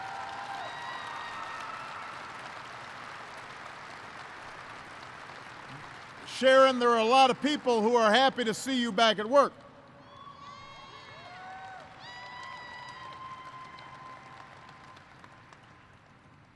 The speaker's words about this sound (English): But her doctors recently told her she's healthy enough to come back to work. That's worth applauding.